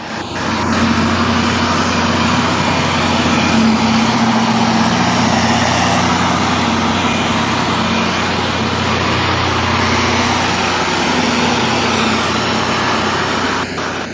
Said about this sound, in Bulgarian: Тези 14 секунди не бяха Боинг, нито боен самолет. Това е тръмбовачка на чакъл и такава машина, дето издухва бокулците преди да се постави новия асфалт. Не знам колко децибела вдигат двете заедно, но се чуват от началото на Александровска до Альошата